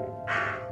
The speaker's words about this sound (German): Ah, das ist ein Rabe.